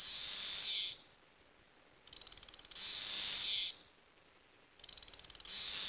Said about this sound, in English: And nearby, Magus cicada cassini, and that makes a much more click buzz sound.